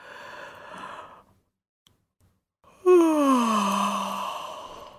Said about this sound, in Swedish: Nej, men gäspandet kommer där på en gång när jag börjar prata om det.